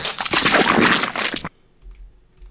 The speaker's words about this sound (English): Zombie splatter.